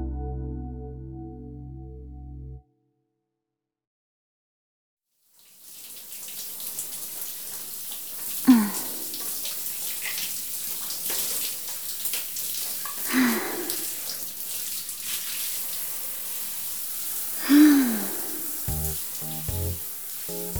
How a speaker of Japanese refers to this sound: やっぱり部活の後のシャワーは気持ちいいわね。プールの水と一緒に疲れも流されていくみたいで